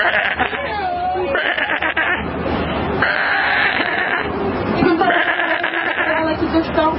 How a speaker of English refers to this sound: Oh, look at that. Oh, look. Right, she's so happy. Look at the sheep bleat, Americans. They're so happy.